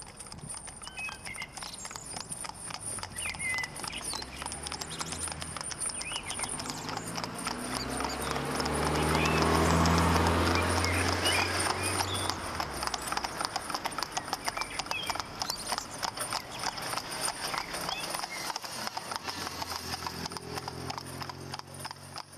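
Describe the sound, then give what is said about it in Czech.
Horse hooves clip-clop steadily on a hard street surface, a regular rhythmic clatter that grows louder as the horse approaches around the middle, then eases slightly as it passes. “Doba reálného socialismu koním nepřála, ale po sametové revoluci jsou koně v ulicích už zase občas vidět.”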